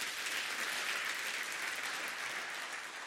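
Sustained audience applause, dense and steady throughout, many hands clapping together at a constant loud level without a break or any voices standing out.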